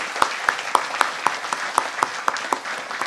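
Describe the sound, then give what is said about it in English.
An audience applauds the ministry's volunteers: a dense wash of clapping with sharp, evenly spaced claps standing out in a steady rhythm of about four per second, moderately loud throughout with no talking. “Let's just give everybody just one big round of applause.”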